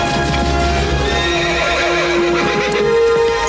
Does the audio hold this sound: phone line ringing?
no